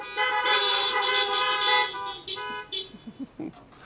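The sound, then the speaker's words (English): Several car horns honk together in a long, overlapping blare for about two seconds, then trail off into a few short, scattered toots. “And if the people of God believe that, let your horns honk once or twice.”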